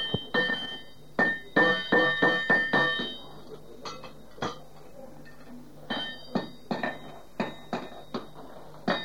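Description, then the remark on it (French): A hammer strikes an anvil and the tool being worked, refining its point, in ringing metallic blows. The blows fall into quick rhythmic clusters of rebounds with short pauses between them, and the sound and rhythm differ between anvil and workpiece. The strikes are fairly loud, with no voices. “On peut noter le bruit et le rythme différent du marteau rebondissant soit sur l'enclume, soit sur l'outil en chantier.”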